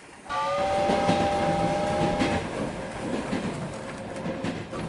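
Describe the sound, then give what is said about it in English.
A train rumbles steadily along the tracks, loud, with a sustained horn blast sounding over the first couple of seconds before the rolling noise continues alone. “Is that our train?”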